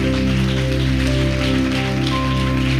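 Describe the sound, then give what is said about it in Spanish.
Loud, steady applause to God from a church audience during a service, a dense crackling wash of clapping that continues without a break, with sustained low keyboard or organ tones held underneath. “fuerte aplauso a nuestro Dios.”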